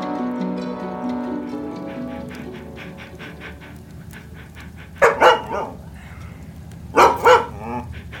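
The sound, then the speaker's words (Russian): A large dog barks twice in quick pairs, loud, with a soft rushing background and some faint tonal sounds at the start. “У его ног лежала большая собака, с которой он время от времени заводил дружелюбный разговор.”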